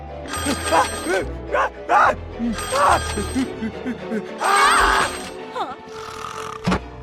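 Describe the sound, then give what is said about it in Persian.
An old-style telephone bell rings in several loud, jangling bursts separated by short pauses, with vocal sounds and murmuring mixed in underneath. “خودشه جواب نده.”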